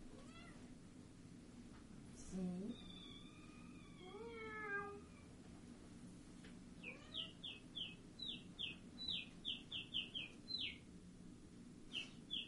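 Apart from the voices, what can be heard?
cat meowing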